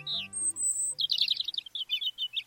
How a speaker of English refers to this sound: While a bird's eye view lets a migratory songbird like this European robin keep track of important landmarks along its route, a special protein in its eyes might let it see Earth's magnetic field.